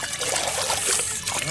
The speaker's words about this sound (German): So, und jetzt den Kübel wieder mit Wasser füllen.